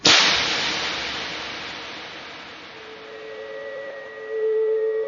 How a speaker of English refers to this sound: This sound is the sound of clicking heels. Clicking heels. Clicking heels.